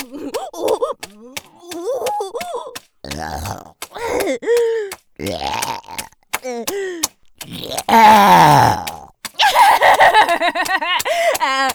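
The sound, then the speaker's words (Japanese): A rapid string of loud burps, over a dozen in a row, some short and croaky, others drawn out and rasping, with only brief pauses between them. “やばい、ゲップ止まんない。”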